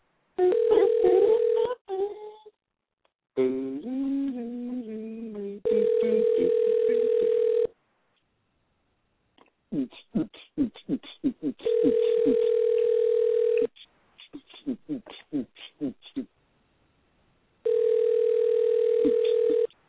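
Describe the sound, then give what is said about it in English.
A steady, mid-pitched telephone tone sounds in four roughly two-second bursts separated by pauses, like a call ringing out while calling a guest live on the air, with people talking in the gaps between tones. “We're going to call a guest over quick, live on the air, so I would do things.”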